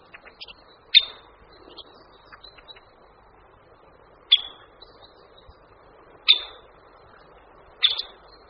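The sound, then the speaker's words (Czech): A Syrian woodpecker gives four sharp, high calls spaced a few seconds apart. They ring out clearly over a low, steady background of outdoor noise, and no voices are heard. “To probíhá v březnu, kdy oba ptáci v páru bubnují a ozývají se křikem.”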